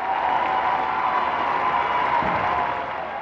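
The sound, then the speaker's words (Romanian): A large crowd of faithful applauding and cheering for Pope Benedict XVI at the Angelus, in a steady, dense wash of noise, with no break for the whole stretch and a slight drop in loudness toward the end. “O baie de mulțime a alcătuit fundalul acestui moment”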